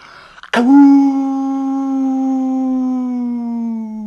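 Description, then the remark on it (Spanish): A person imitates a wolf, letting out one long, loud howl that starts abruptly and holds a steady, slightly falling pitch for several seconds. “¿Crees que las amigas y los amigos que nos escuchen puedan aullar como lobos o como coyotes?”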